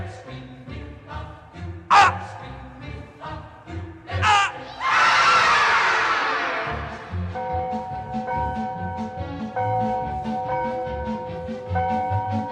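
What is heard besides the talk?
person screaming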